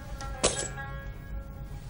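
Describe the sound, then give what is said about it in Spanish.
A brief metallic jingle of office keys being handed over, one bright clatter with a short shimmering tail, over a quiet steady background hum. “Tómalas. Son las llaves de esta oficina.”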